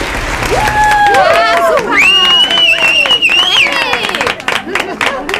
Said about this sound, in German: Doch bevor die Schwimmwettkämpfe starten, möchte ich Ihnen, sozusagen als Begrüßung, das Lindenhofer Wasserballett präsentieren. Ich bitte um einen herzlichen Applaus.